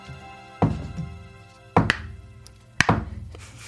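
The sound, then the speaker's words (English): Three slow, dull knocks of a coaster tapped on a large wooden table as a Foley imitation of a knock on a bedroom door, spaced about a second apart, each a short thunk with a brief ring, over a faint steady tonal hum. “She picked up a coaster and knocked it when she's got a huge wood table.”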